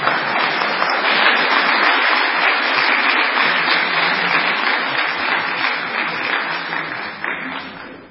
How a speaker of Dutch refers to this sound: Oké, maar we gaan eerst denk ik nog even een applaus voor de Oostkant rijden.